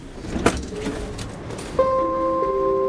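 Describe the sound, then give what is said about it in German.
A regional express train pulls into Stuttgart main station with a slight jolt and stops. Passengers open its doors with a sharp clunk, then steady electronic tones sound from the door mechanism, in a noisy station with no talking. “Mit einem leichten Ruckeln fährt der Regionalexpress in den Stuttgarter Hauptbahnhof ein. Der Zug hält, die Fahrgäste öffnen die Türen.”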